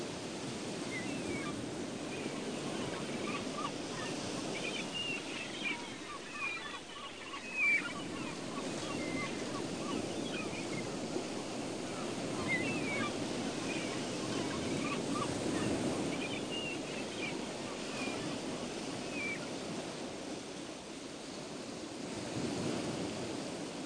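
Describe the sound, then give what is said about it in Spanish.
Sea waves break steadily on a sandy shore, a continuous rushing surf with gentle swells rising and falling every few seconds, moderately loud, with no voices. “Tumbado en la arena junto al agua, oyes romper las olas en la orilla.”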